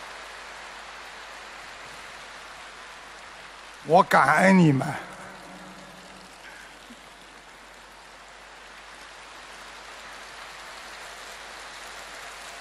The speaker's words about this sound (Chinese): 知道，你们要鼓掌，索性就鼓得响一点。